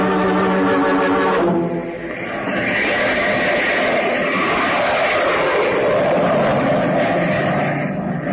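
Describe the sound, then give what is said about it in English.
A steady, loud jet engine roar from a jet on an emergency flight to New York fills the whole stretch, opening with a tonal whine that gives way to a broad, continuous rushing drone, as if heard from inside a plane in flight. “call the airport and order the jet to be ready for a takeoff within an hour.”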